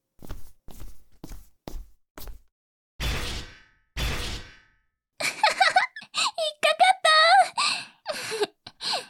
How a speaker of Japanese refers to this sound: その椅子、寝かせた足かせが出る仕組みだよ。これで動けなくなっちゃったね。